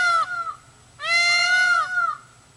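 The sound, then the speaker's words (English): Peacock screams: a brief, loud wail, then a longer, drawn-out cry lasting about a second that rises and falls in pitch, harsh and nasal like a crying baby, with no voices. “Peacock noise. Scream.”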